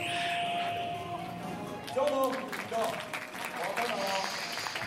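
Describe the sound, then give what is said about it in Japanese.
Steady, warm applause from an audience at the end of the Kamen Senshi Niceman hero stage show at the Osaka Justice event fills the whole stretch, a dense crackle of clapping with voices rising over it partway through. “温かい拍手が来られております。”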